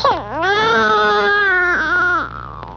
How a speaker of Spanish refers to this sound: ¡Ay, no! ¡Otra vez ya está llorando!